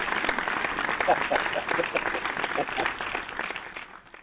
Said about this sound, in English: Let's give it a applause to his wife.